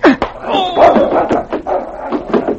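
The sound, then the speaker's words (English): A big gray dog snarls and barks ferociously in rapid bursts, growling between sharp barks as it springs at a man's throat in an attack, with a few scuffling thuds underneath. “As the big gray dog sprang for the throat of the man who had struck his master, had his teeth closed on the lead pipe that was used as a weapon.”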